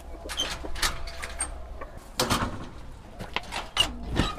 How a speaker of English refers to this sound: And there's the chicken.